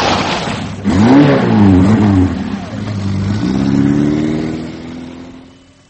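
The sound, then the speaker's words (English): A car engine roars as it accelerates hard toward a pedestrian, its pitch climbing and wavering through several revs, staying loud for several seconds before fading slightly at the end. “We're trying to trace the car.”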